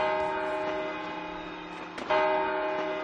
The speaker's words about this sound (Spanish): Hoy las campanadas nos llevan al año 1980. Y en ese año, así sonaron las de Televisión Española.